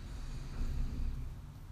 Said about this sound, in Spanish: Inhalamos y sabemos que estamos respirando.